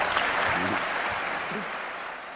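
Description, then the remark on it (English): Loud, thunderous applause following remarks by Havel, a dense and steady wash for the whole stretch, fading only slightly toward the end, with a few faint voices briefly audible beneath it. “It was all very extraordinary, Havel would add, once the thunderous applause had subsided.”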